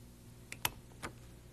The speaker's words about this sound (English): Here's one. You see what it's like? This little thing down here squeezes into that hole there. And if there's a paper between it, it punches it. Like this.